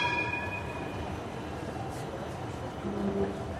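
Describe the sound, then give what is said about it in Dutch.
A line 2 tram rumbles steadily past on the left with a broad, low mechanical drone and faint high squealing tones, continuous throughout, with no talking. “Lijn 2. Gaat voorbij en lijn 17 Centraal Station komt eraan.”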